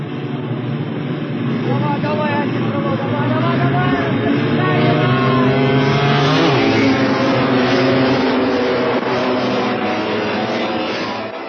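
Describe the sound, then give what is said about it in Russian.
Several 350 cc sidecar motorcycle engines roar together at the start of a race of 24 laps of 3 km, revving and rising in pitch as they pull away, a loud dense wash of motor noise with a voice speaking underneath. “Итак, старт! Впереди 24 круга по 3 километра.”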